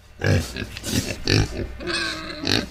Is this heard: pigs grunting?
yes